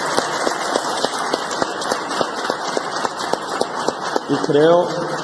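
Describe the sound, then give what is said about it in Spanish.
Loud, dense audience applause, a steady crackle of many hands clapping throughout, with voices mixed in and a single voice rising briefly above the clapping near the end. “Y yo creo que este aplauso fuerte es para él porque se arriesgó, tuvo el valor.”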